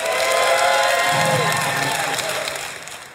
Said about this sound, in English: Just cheer for the truth. If you think Yanni was telling the truth, go ahead and give a cheer now.